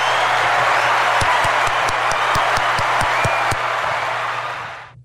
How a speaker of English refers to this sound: Thank you so much for the applause. I really do appreciate it. It feels great to be back in the fish tank.